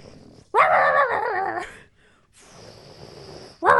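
A dog named Luna growls and barks at a hot air balloon going over the house in the morning, a loud, rough burst, pauses briefly, then continues with lower grumbling before another sharp bark at the end. No one speaks.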